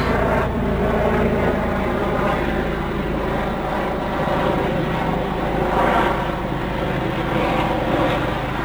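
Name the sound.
helicopter flying overhead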